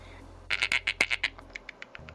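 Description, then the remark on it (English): A fast series of sharp, bright clicks, about a dozen in quick succession, loud at first and then thinning into quieter, more spaced-out ticks, made by a clicking lower jaw. No talking. “That is his lower jaw clicking.”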